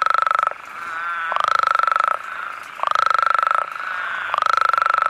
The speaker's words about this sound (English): The males typically will arrive first and then they'll start to call. They have very loud calls, like a lot of frogs, but these guys in particular have really loud calls.